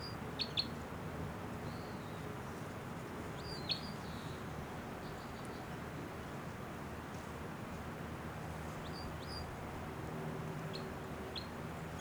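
myrtle warbler song

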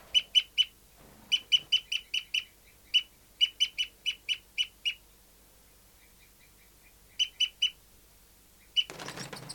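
birds calling

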